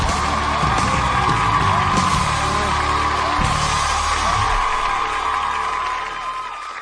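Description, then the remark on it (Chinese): An audience claps and cheers to welcome a contestant about to play the suona, a dense, continuous wash of applause with scattered whoops and shouts, holding steady before easing slightly at the end. “好好 好，行，来，咱们掌声， 有 请，有 请。”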